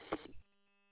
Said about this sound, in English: That's a repeater doing that. I don't have a Roger beep in this radio that I know of. Oh, you do. Every time you unkey, it's a chirp chirp from your radio.